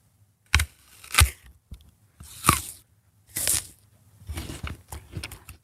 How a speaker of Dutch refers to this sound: Ik ga lekker een hap van een appel nemen.